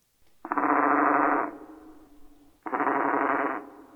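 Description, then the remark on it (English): A common raven call slowed in Audacity to a quarter of its speed and pitched two octaves lower, turned into two long, harsh, buzzing growls with a gritty, mechanical texture, the first about a second long and the second slightly shorter. “Well, that one we slowed down to 1/4 of its speed, but while we were at it, we allowed the pitch to drop to 1/4, which would be down by 2 octaves.”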